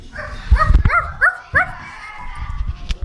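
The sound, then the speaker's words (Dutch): A dog barks several times in quick, uneven bursts, some sharp and yippy with a whining edge, over a low rumbling background. “Hij hoorde geblaf.”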